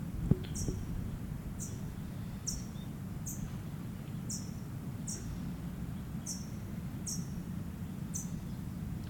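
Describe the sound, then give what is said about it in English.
A parent bird gives a series of short, sharp, high-pitched chip calls, roughly one per second, moderately loud over a steady low rumbling background with no talking, while both parent birds move rapidly around the microphone. “Both parents are around me. Moving rapidly around the mic.”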